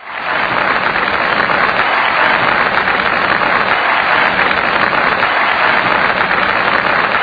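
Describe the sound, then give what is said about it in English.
A steady wash of recorded crowd applause, loud and dense, with faint repeating swells from a loop of about a two-second clap playing over and over, with no voices. “I think that's a loop of about a two-second clap.”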